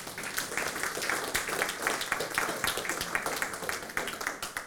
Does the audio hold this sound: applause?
yes